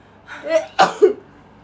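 A single sneeze: a short drawn-in breath builds up, then a sharp, loud burst of air with a quick trailing snort, and quiet afterward. No talking.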